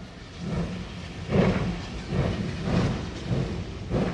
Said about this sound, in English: Now the train's chuffing away here. Right. It's headed toward White Top, which was the highest point ever reached by a regularly scheduled passenger train east of the Mississippi.